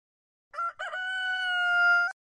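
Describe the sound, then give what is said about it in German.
A rooster on a farm crows once, loud: two short broken notes followed by a long, sustained, slightly rising cock-a-doodle-doo that cuts off sharply, with no talking around it. “Ein Hahn krähte und weckte Pieper und Paulus in ihrem Wohnbus Fidibus.”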